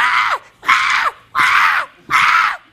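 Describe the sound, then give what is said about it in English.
A voice imitates a newborn baby's scream: four loud, shrill wails in steady succession, each ending in a falling tail, separated by short gaps. “What would it take for you to scream like a newborn baby screams?”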